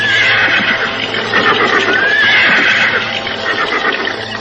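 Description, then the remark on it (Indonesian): A horse whinnies loudly and repeatedly as its rider arrives and dismounts, with a steady clatter of hooves on a hard surface running underneath throughout. “Biarkan saja kuda ini kita taruh di tempat ini.”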